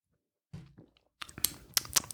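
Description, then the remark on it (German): Wet lip smacking and mouth clicks after a swallow of a drink, a quick irregular burst of sharp smacks following a soft low gulp, fairly quiet and with no talking. “Ah, schön mal schmatzen.”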